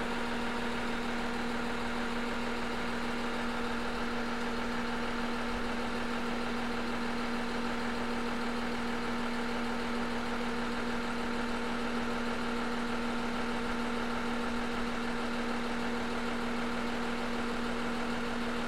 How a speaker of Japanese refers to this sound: 水軍線の、郡山駅で撮ったキハ E130 の音を聞いてもらいました。これはエンジンが、DMF15HZ というかなり改良された、ディーゼルエンジンみたいですね。